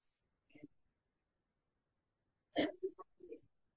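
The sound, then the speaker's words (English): Someone tries to sneeze: a small catching breath, a two-second pause, then a sharp, forceful burst followed by a few short sputtering gasps. “Well, you're trying to sneeze.”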